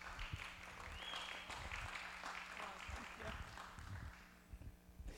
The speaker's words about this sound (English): And if you have time at the end of the service, please stop by her table and just have a chat with her, and just please give her applause.